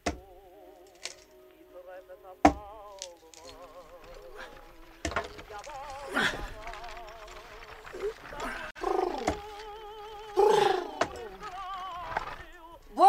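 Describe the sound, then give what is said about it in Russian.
An axe splits firewood with several sharp, irregularly spaced chops, each a hard crack that stands out over a wavering melody of music playing throughout. “Ишь ты, сколько ж ты под музыку дров-то наколола, а?”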